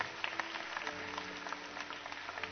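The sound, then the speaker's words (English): A church audience applauds in a steady, dense wash of clapping that holds at an even level throughout, with a faint sustained low tone humming underneath. “Can we give these folks a big hand clap?”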